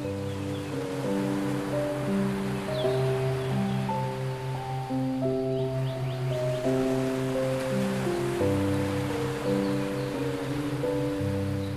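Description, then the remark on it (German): Steady rushing ocean surf, like waves washing onto a beach, runs beneath soft sustained music chords that change slowly. The wash stays even throughout, with no voices. “Und als ob du nie etwas anderes gemacht hättest, surfst du die riesige Welle bis zum Strand hin.”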